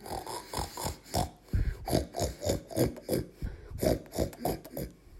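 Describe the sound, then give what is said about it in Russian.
A father badger grunts over and over in a quick, steady rhythm, about a dozen short snorting grunts, fairly loud, with no talking. “Но вместо песни он услышал только хрюканье.”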